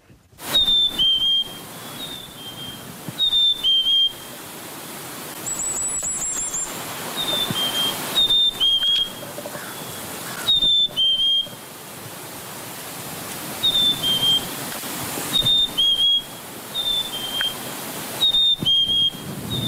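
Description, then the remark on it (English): A chickadee sings its clear two-note spring song, also known as the Phoebe call or cheeseburger call, a high whistle dropping to a lower note, repeated every few seconds over a steady rushing hiss. No one speaks. Recording from Xeno-canto by Jonathan Jongsma. “And to bring us out today, we have the Chickadees Spring Song, sometimes known as the Phoebe call or the cheeseburger call.”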